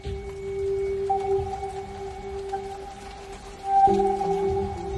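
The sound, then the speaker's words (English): Steady rain falls in a continuous hiss over flooded Lismore, with sustained low droning tones running over it throughout; no voices are heard. “They walk slowly in the rain, up the hill from the bottom of the flooded Lismore Bowl, past hundreds of other survivors who sit in shock, some crying.”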